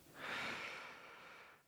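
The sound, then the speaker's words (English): A single long, heavy breath after a swig of water, airy, swelling quickly and trailing off over almost two seconds with no talking. “Talking about me breathing heavy.”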